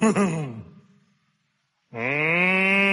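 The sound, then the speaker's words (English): A voice imitates a cow with a wavering moo that fades out, then after a pause a second, steady, sustained moo rings out loud. “If you're happy and you know it, and you really want to show it, if you're happy and you know it, moo like a cow.”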